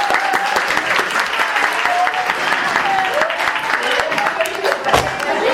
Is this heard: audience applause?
yes